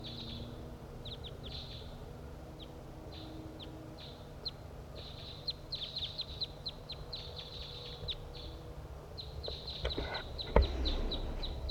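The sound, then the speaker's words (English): Repeated short, high chip calls from two wild crossbills flying north to south along a ridgetop, one perching in a tree, coming in quick irregular bursts over a steady low rumble, with a louder thump near the end. “One, two wild crossbills flying from north to south along the ridgetop, and one has perched in the tree nearby.”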